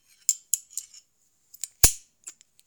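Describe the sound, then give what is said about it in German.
Handcuffs clicking shut as police officers cuff a suspect: a string of sharp, bright metallic ratchet clicks, irregularly spaced, with two heavier snapping clacks standing out among the lighter ticks. No voices. “Die Polizisten legen dem Täter Handschellen an.”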